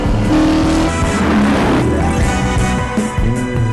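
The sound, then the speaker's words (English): A Charger muscle car's V8 engine revs loudly, its deep throaty rumble rising and falling in pitch through a few throttle blips, with no talking. “And because I do this, I will drive the car I want to drive. Charger.”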